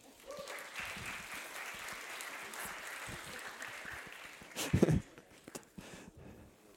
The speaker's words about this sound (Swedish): Barnen är i söndagsskolan, så har vi de bästa platserna här. Ska vi välkomna dem med en applåd?